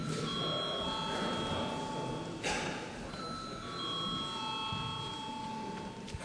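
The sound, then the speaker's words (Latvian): The chamber bell of the Latvian parliament, the Saeima, rings continuously for about six seconds before a vote, a steady high-pitched electric tone with layered overtones, sounding over a low, even background hum. “Lūdzu zvanu.”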